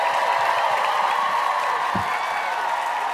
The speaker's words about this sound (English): Clap it up for yourselves one more time.